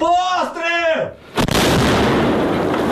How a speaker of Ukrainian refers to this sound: Постріл!